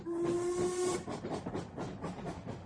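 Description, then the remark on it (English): A boat train's steam whistle sounds one steady, sustained note for about a second, then gives way to loud, rushing hiss of escaping steam with rhythmic chuffing pulses. “I travelled by the boat train”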